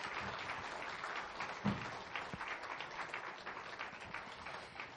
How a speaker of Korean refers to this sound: 이렇게 청년과 중년의 사이, 그 삶의 언덕에서 찬양의 고백을 들려준 우리 31교구에게 다시 한번 큰 박수 부탁드립니다.